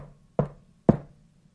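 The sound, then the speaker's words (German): Two firm knocks on the wooden door of a huge house on a hill, spaced about half a second apart, clear with a short hollow ring after each, then quiet. “Und sogleich lief er zu dem Haus hin und klopfte an die Tür.”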